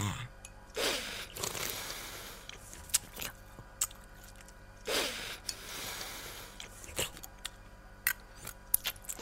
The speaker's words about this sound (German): Kannst du mal weniger schlürfen und nicht immer gegen deine Zähne hauen mit dem Löffel?